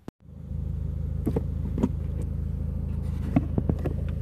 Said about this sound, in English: You'll hear my car a little bit in this one, sorry about that. Recording this one while I'm on my way to work.